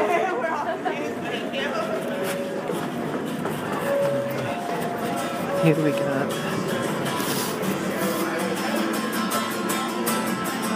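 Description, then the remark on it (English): An Uptown A subway train, apparently very full, rumbles steadily at the Fulton Street station platform with a thin metallic whine, loud, while a crowd chatters and people talk throughout. “There's an Uptown A, it looks like, really full.”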